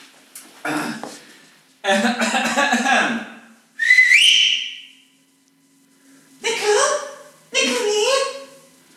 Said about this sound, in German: Ich pfeife mal. Die Kellnerin her.